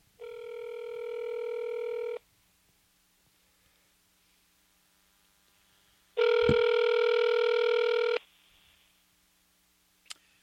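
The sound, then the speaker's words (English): An outgoing phone call's ringing tone: two steady electronic rings about two seconds long, separated by a four-second pause, clear, followed by a brief click. “So we're ringing him now.”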